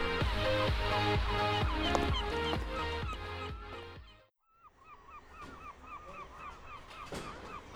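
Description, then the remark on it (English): Loud, harsh seagull calls overlap in a dense run of squawks, cut off by a brief silence, then fainter, quicker gull cries repeat on their own; a seagull that has just fouled a car. “That seagull shited on my motor.”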